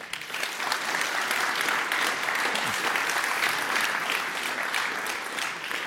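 An audience claps steadily to welcome a speaker introduced for a talk, a dense, even wash of applause that stays loud from start to finish with no voices standing out.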